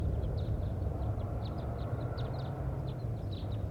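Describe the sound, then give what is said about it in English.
A flock of wild birds passes overhead, their many short, high chirps scattered irregularly across a steady, loud low rumble, with no one speaking. “And wild birds are flying over right now.”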